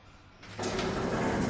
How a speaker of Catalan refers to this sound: Anem a agafar l'ascensor, que ja el tenim aquí preparat. Vinga, està una mica vella aquell trasto, eh? Som-hi, pugeu. Ara, ja el tenim aquí, vinga.